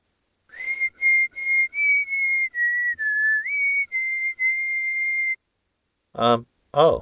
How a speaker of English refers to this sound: Can I whistle? I can't in my dreams.